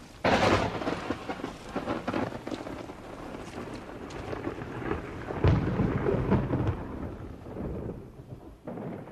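Steady, hissing rain pours down while deep rumbles of thunder roll through, one loud crack near the start and another heavy boom midway, before the downpour tapers off slightly.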